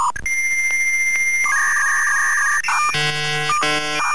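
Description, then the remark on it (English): A dial-up modem connecting: steady electronic tones shift to a harsh, hissing screech, then give way to loud bursts of buzzing, static-like handshake noise. “Back in the day, this was a high-speed internet connection.”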